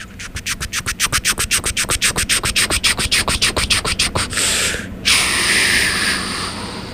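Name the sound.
train arriving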